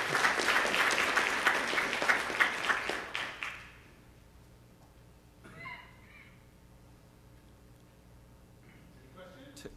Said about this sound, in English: So, questions? We have time to clap.